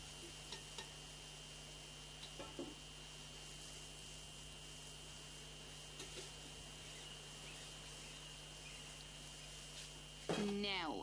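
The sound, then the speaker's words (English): Zulbia batter, piped from a piping bag in a circular twisty shape, sizzles steadily in hot oil, a continuous crackling hiss with a low hum beneath, scattered small clicks, and a brief louder burst of sound near the end. “holds the piping bag over the hot oil and moves the piping bag in a circular motion, forming a circle twisty shape.”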